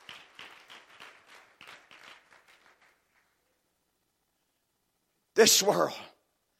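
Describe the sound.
An audience claps its hands in a scattered, uneven patter that thins out and fades over about three seconds. After a pause, a brief loud burst of voice follows.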